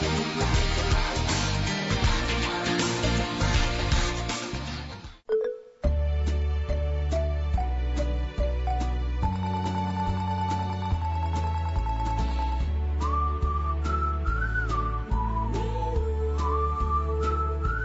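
A song plays loudly on its own during the Into Tomorrow radio broadcast from CEATEC Japan 2005 outside Tokyo, full instrumentation with a steady beat. After a brief pause near the start, it continues with a high, bright lead melody.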